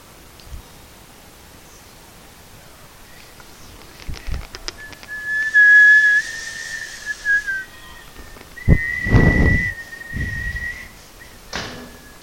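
A little bird's whistling song: two long, steady high-pitched phrases with slight pitch bends, separated by a short pause, among soft rustles and a few light knocks.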